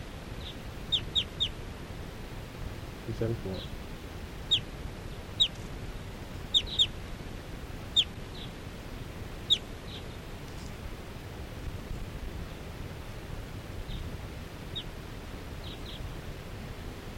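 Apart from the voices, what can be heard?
wild birds calling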